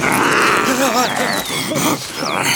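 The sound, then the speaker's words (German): A loud, drawn-out lion roar with a wavering, growling tone fills the whole moment, forceful, while thin whistling tones flicker faintly above it. “Ein Löwe. Er brüllt ja, dass das Laub an den Bäumen zittert.”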